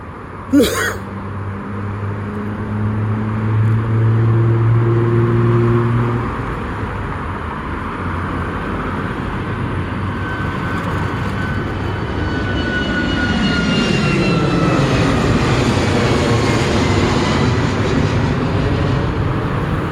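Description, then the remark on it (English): A Boeing 737 jet airliner roars down the runway on takeoff at almost 10 o'clock at night, a loud, steady rumbling engine noise that swells and holds for the whole stretch, with a low droning hum early on. “Those are 737s, you know.”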